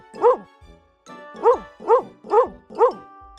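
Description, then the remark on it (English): A dog barks five times as a man gives it food, one sharp bark, a short pause, then four more in a quick, even rhythm. No voices, and the barks stand out clearly. “Dad is giving food to his dog.”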